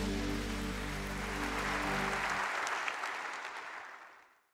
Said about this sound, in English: A shout of praise in this room.